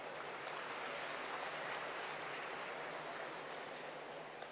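Steady, dense applause from a large crowd, a continuous crackling wash of many hands clapping at an even loudness for several seconds, with no voices standing out; the brothers and sisters of the Karnataka zone applauding themselves.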